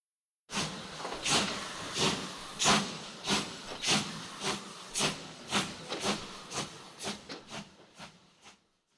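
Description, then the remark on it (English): A steam train at a train station hisses loudly, with rhythmic bursts of steam puffing about twice a second over a continuous hiss, gradually slowing and fading out. No voices are heard. “There was a train station and a train.”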